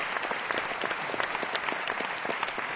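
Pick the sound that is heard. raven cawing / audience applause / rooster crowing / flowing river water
audience applause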